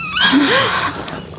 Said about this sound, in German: Nur ein Käuzchen.